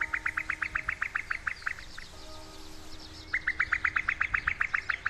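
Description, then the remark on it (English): A cuckoo calling in a fast bubbling trill of bright, high chirps, two runs of rapid notes separated by a short pause, with no talking. “But overall, cuckoos just go cuckoo everywhere. But it's only the male that goes cuckoo.”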